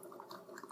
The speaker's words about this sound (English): Here we go. It's coming out very slowly. So basically, the water in the tank fills up and it goes up through this bar, and the bar goes and pours over the top of the grounds in the single cup